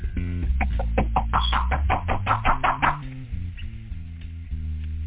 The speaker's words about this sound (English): right there at the door. They're knocking at this time right now. I don't like being disturbed when I'm in here counting money,